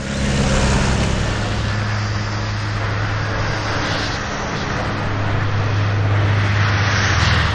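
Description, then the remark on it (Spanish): A continuous, loud roar of airplane and car engines crossing the scene, a steady low drone with broad rumbling noise that swells slightly, drowning out the mountain woodland soundscape until it is silenced. No voices. “De repente, como salido del interior de la tierra, aparece el rugir de los motores aplastando el paisaje sonoro hasta silenciarlo. Aviones y automóviles cruzan la escena.”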